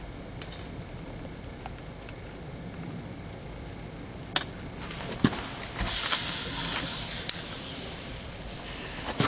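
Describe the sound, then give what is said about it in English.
A steady hissing sizzle of water hitting molten lead, swelling in the middle and tailing off, broken by a few sharp crackles and pops. No one speaks. “Hear that sizzle? That means there's water on there.”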